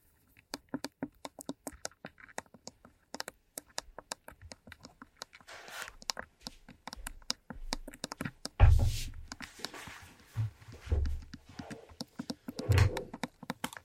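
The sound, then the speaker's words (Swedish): Scattered clicks and light patting on a Logitech K750i wireless keyboard with a Mac layout, followed by louder bursts of rustling and dabbing as paper is pressed and rubbed over the keys to wipe up spilled soda. “Jag lägger en massa papper över här.”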